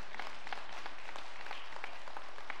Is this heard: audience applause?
yes